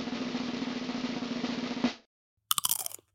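Loud crunching of the last nacho chip of the day, chewed right into the microphone: a long crackly stretch of chewing, a brief pause, then a second sharp burst of crunches.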